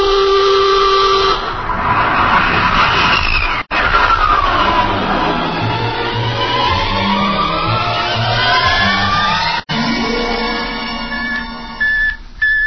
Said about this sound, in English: We'll blast off on your signal. Bridge to engine room. Prepare to blast off on navigator's signal.